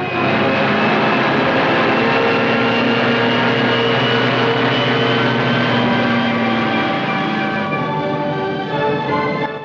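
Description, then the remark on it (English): A steady, loud airplane engine drones continuously, its dense hum holding level with a slight shift in tone near the end as the plane banks sharply to the right. “The plane banks sharply to the right.”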